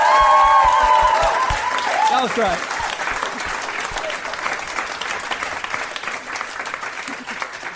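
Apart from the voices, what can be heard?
audience applause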